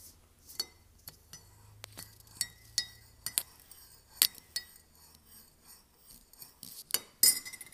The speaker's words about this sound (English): It's like, this is the sound of me like swirling my spoon.